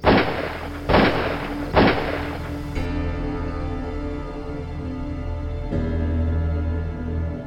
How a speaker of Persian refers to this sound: افراد گوش به فرمان هم بدون معطل کردن موتر را به گلوله می بندند تا زمانی که موتر از جاده منحرف می شود و با تصادف به سنگ های کنار جاده می ایسته.